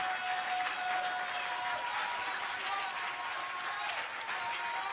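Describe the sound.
An audience clapping their hands to give God the glory on Mother's Day, a dense, steady wash of many claps that runs unbroken at an even, fairly loud level, with a murmur of crowd voices underneath.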